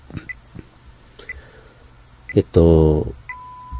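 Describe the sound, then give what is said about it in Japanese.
Faint short electronic pips repeat about once a second, then a longer steady tone starts at the end, like a telephone time-signal announcement. A brief loud voice cuts in just before the final tone. “こういう時報の音が、電話口ではなくて、普通のスピーカーから流れてくるっていう体験を、普通の人はあまりしないと思うんですけども、実は僕は毎年これをするんですね、この体験を。”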